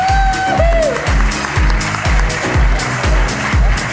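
An audience claps loudly and continuously, the dense applause layered over a steady, thumping low beat about twice per second, with a brief whistle-like tone near the start.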